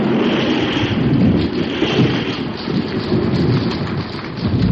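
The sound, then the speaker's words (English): A heavy, booming roll of thunder from a lightning strike rumbles loudly throughout, layered over a steady downpour of hard rain with some wind buffeting. “God in Himmel, what lightning!”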